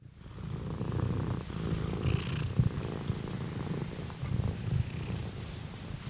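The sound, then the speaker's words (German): A cat sitting on a lap during an interview purrs steadily and loudly into the microphone, a continuous low rumbling with a gentle pulsing rhythm, heard alone without any talking. “Ihr kleines, verwinkeltes Haus wird von rund einem Dutzend Katzen bevölkert, die es sich während des Interviews auf meinem Schoß bequem machen und ins Mikrofon schnurren.”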